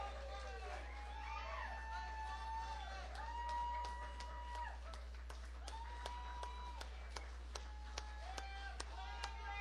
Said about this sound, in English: Come on, try to welcome them back to the stage. We need some applause here.